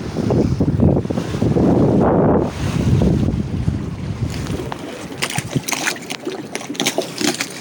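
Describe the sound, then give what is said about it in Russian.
Sea waves as a boat sails out into the open sea under red sails with its motor off: a steady rush of water and wind noise for the first half, giving way to a string of sharp, irregular splashes against the hull. No one speaks. “выключили мотор, поставили все паруса, которые красного цвета, и идем под парусами, выходим в открытое море, и я думаю, можно услышать шум волн.”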